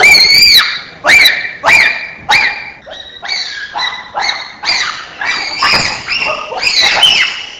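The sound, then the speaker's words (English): Smooth, connected hooting from an animal, about a dozen loud, tonal calls following one another closely in a steady run, some sliding upward in pitch, with no talking. “Examples 3 and 4, legato hooting.”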